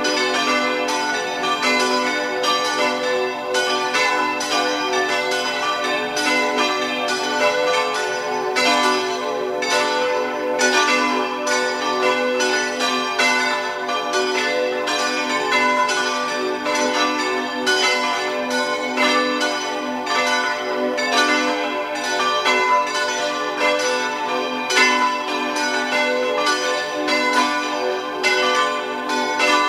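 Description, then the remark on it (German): The bells of the Antoniuskirche in Oetzerau, part of the municipality of Oetz in Tyrol, ring at 12 o'clock noon in a continuous, full peal, several bells striking and overlapping with long humming tones that blend together at a steady, fairly loud level throughout, with no voices. “Sie hören die Glocken der Antoniuskirche von Oetzerau in Tirol.”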